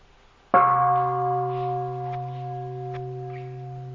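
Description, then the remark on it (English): A single mindfulness bell is struck once, ringing out with a clear, sustained tone that slowly fades over several seconds, alone with no voices. “We listen to one sound of bell to relax our body and our mind.”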